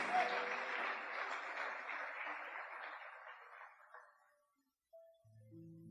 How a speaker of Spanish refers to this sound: Aleluya. Dele aplauso al Señor. La gloria es de Dios.